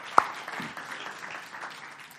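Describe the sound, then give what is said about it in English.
An audience applauds for dads. One sharp, loud clap rings out first, then a steady patter of scattered clapping continues at a moderate level, with no one speaking. “Yeah, come on, let's give our dads a clap.”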